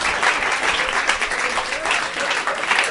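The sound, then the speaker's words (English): Sustained audience applause, a dense, steady wash of many hands clapping at an even loudness throughout, with no breaks or clear individual claps standing out. “Stop clapping! Stop clapping!”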